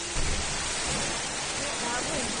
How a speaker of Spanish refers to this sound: Con solo abrir la puerta de su portal, los vecinos veían entrar el agua con tal fuerza, con tal velocidad, que la riada ha subido escaleras sin trabajo, con vida propia prácticamente.